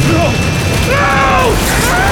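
Metal twists and shrieks inside a roaring airplane turbine engine mounted on the concrete floor of a warehouse as a man is sucked into its fan blades, with wavering, groaning tones that bend up and sag down in pitch over a loud, steady rumble of machinery.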